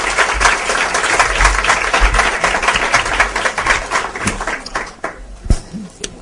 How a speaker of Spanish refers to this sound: Un aplauso